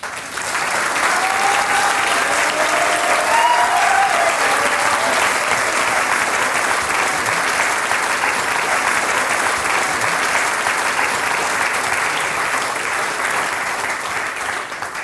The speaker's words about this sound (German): In diesem Sinne, jetzt dürfen Sie für sich selber klatschen. Danke, dass Sie heute da waren und unser Publikum waren.